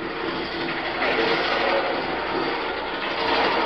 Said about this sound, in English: Hey, there's a railroad crossing up ahead and a freight's coming. Yeah. If we can beat that freight to the crossing, we can lose this guy.